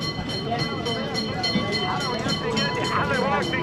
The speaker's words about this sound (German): Klingelnd rattern Straßenbahnen über Kopfsteinpflaster.